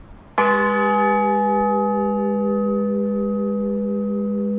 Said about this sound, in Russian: Благовест надо начать. Что означает благовест? В детстве, как я общался со звонарями, это основной звон, созывающий к службе прихожан.